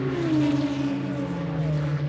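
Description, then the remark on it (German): A racing car, its body adorned with large pipes, roars steadily and loudly throughout, its engine pitch dipping slightly before climbing again, a continuous growl with no voices. “Ein Rennwagen, dessen Karosserie große Rohre schmücken, die Schlangen mit explosivem Atem gleichen.”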